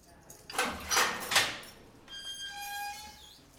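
A heavy metal cell door in a prison rattles and clanks with a few sharp jolts as an officer unlocks it, then grinds open with a long, high-pitched squealing slide, fairly loud.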